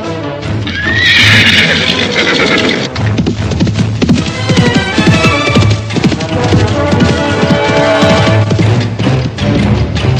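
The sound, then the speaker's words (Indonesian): A horse whinnies loudly near the start, then hooves pound in a fast, steady gallop as a rider spurs it hard, leaving Mataram, continuing loud to the end, with no voices. “Waranaji segera berkemas, menunggang kuda, dan memacunya dengan kencang, meninggalkan Mataram”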